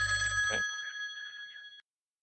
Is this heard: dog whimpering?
no